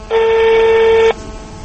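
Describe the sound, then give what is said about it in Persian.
A single steady electronic telephone keypad tone sounds loud for about a second as an old man's son's phone number is dialed, then cuts off abruptly, leaving faint background hiss. No one speaks. “من از تلفن من بیاد استفاده کنیم رقمشم میچینیم.”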